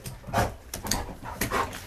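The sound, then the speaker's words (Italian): A two-year-old honey-coloured Labrador gives three short, rapid breathy huffs, like a playful snort-exhale, fairly soft, with no talking: a rapid exhalation inviting play. “È vero, si fanno un'espirazione rapida e a volte battono le zampe insieme sul pavimento.”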